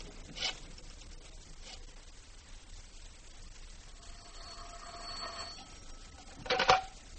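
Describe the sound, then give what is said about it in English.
A telephone is dialed to call a woman's apartment with a few scratchy clicks, then a ring buzzes briefly before a sharp clatter as the receiver is picked up, all slightly muffled over a faint hiss. “Let's call it her apartment and see if she's found anything in those notes, huh?”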